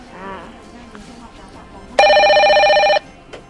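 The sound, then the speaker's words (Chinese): A single loud electronic phone ring lasting about a second, a steady harmonic tone that starts and stops abruptly, with faint background chatter before it. “等一下电话铃声之后你就开始讲咯。”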